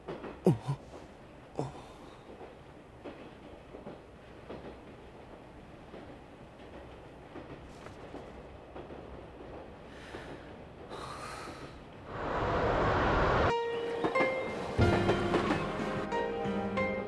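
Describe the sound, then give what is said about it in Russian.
A train rolls along the rails toward its terminal station with a steady rumble and rhythmic clacks from the wheels, growing louder near the end as a metallic squeal joins in. “В скором времени поезд прибудет на конечную станцию Ясуэнобу.”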